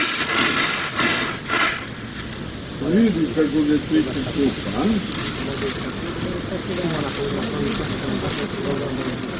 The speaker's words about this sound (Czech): Dok zadovoljno maše curlom pod mlazom hladne vode, ova slonica koja je prevalila četvrtu deceniju života jedna je od najvećih atrakcija za posetioce.